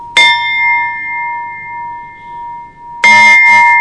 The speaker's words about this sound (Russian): Ну, ля диез у него идет. Все, самый высокий на данный момент колокол.